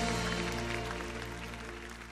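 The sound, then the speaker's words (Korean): A steady wash of clapping from many hands, applause of thanks to the Lord during a Christian worship broadcast, fills the whole stretch at a fairly even level, with a low tonal hum or music sustained faintly underneath and no voices. “우리 주님께 모든 감사의 박수를 나아갑시다.”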